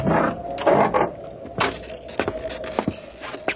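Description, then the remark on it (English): Keys jangle and rattle in a few irregular bursts, a longer shake at first and then shorter metallic clinks, with no one talking. “I got keys to everything. Come on, come in.”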